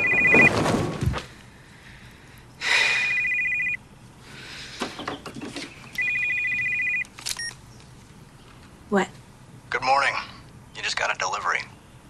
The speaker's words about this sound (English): Flinging back the bedclothes, she sits bolt upright when the phone rings. It's morning.